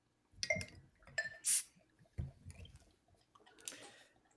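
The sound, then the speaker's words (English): Clinks and clicks of a dark brown glass beer bottle being handled, a short sharp hiss as the non-twist-off cap pops off, then beer glugging and splashing as it's poured into a glass. “So I'm going to crack this open. I've got a glass for it and everything.”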